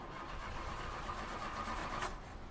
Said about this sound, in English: Well, I have some bad news. The car won't start. You don't believe me? This car is dead as fuck.